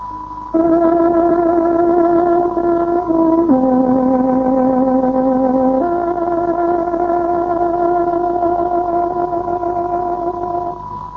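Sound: tárogató radio time signal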